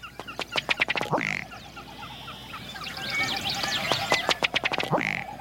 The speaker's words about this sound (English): A ruddy duck.